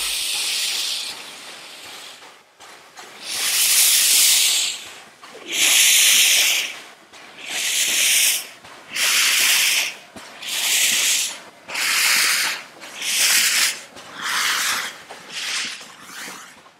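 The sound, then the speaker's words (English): A JS class steam locomotive, having separated from its rake and shunting back onto the workers' train, lets out a series of loud, broad hissing bursts of steam, about seven in a steady rhythm, each lasting a second or so with short pauses between, and no voices. “After having separated from its rake, this JS class locomotive will shunt back onto the workers' train for its 8:40 a.m. departure.”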